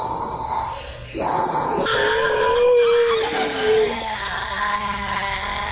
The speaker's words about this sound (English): And I have a cat that made this sound.